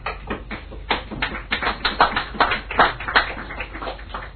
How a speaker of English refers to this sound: You see, I knew you'd clap again eventually.